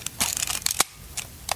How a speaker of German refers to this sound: Dann tun wir die Kamera 1 aufziehen. Dann tun wir die Kamera 2 aufziehen.